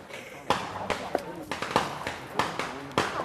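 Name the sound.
firecrackers going off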